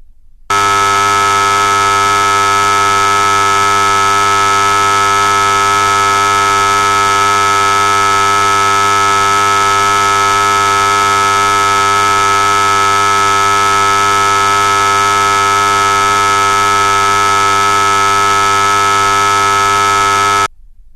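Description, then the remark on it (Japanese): A loud, steady electric buzzer drones without a break for about twenty seconds as a sound to concentrate on in meditation, its harsh harmonic-rich tone holding constant before cutting off abruptly into silence. “では、ブザーの音に集中してください。”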